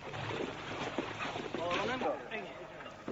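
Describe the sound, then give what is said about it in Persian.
A supply boat heading to the front lines of combat moves across water with a steady, rushing engine and wash noise, and a voice talks briefly over it partway through. “عملیات در چند محور ادامه دارد و ما قصد داریم که همراه یکی از قایق‌های تدارکات به خطوط مقدم درگیری برویم.”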